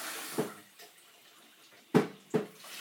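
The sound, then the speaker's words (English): A tap runs steadily, with a few sharper splashes and clatters as hands are washed under the stream; no one speaks. “just wash my hands.”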